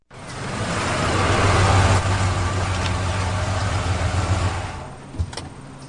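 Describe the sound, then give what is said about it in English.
A truck engine idles steadily, a low continuous rumble with a broad rushing hiss that holds for several seconds before easing slightly near the end. No one speaks. “That's a good-looking truck.”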